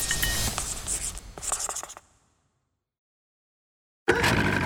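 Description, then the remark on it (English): A pen scratches across paper in quick strokes for about two seconds, stops into silence, then resumes with dense continuous scribbling near the end, as Putin writes a word, "palace", on a piece of paper. “This time he wrote a word on the piece of paper.”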